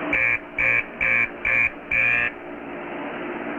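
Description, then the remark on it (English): A mine shaft beep signal, used by miners to communicate because the shaft is too deep to holler, sounds five short, buzzy beeps in an even rhythm, each lasting about a third of a second, over a steady low rumble that carries on after the beeps stop. “He says communication can be a problem down in the shaft, and that's why they use the beep system.”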